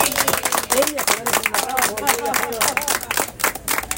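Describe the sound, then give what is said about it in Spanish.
An audience breaks into steady applause for don René, the mayor, from his local leaders at an event closing a campaign: a dense patter of many hands clapping at once, with voices rising over it throughout the four seconds. “Don René se merecerá un aplauso de sus dirigentes.”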